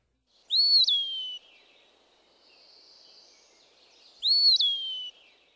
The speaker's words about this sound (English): As with many other woodland birds, the low visual profile of the Eastern Wood Pewee makes its song an especially useful one to know. Here it is again.